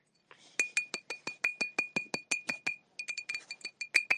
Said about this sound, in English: Can you hear the tippy tap of glass? So it's a glass bottle with a baby nipple.